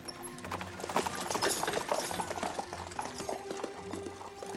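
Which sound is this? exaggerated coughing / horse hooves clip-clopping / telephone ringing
horse hooves clip-clopping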